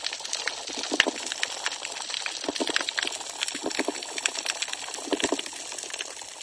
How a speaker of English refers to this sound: That's a spotted sea trout. It's a very lonely male. We hear him here frequently, but only one.